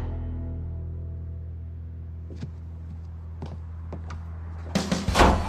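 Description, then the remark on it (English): A door is shut: a few soft clicks and knocks, then a louder thudding clatter near the end, with a steady low hum underneath and no talking. “Mom, open the door.”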